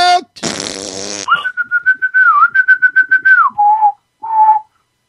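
A person whistles a short theme tune as stand-in theme music: a raspy, buzzing blast first, then a steady pulsing run of whistled notes ending on two short, lower notes.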